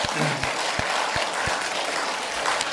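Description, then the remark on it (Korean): A large church audience at Good Shepherd Presbyterian Church applauds steadily to give glory to God, a dense wash of many hands clapping at once, fairly loud and sustained throughout with no pause. “우리 하나님께 영광의 큰 박수합시다.”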